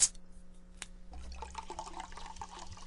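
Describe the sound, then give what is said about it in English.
Bottled water is poured into a glass in a steady, bubbling stream that starts after a brief clink, with a rising gurgle as the glass fills. The pour is moderately loud and there is no talking. “Do you care for water? Yes, I would. Bottled or tap? Bottled, please.”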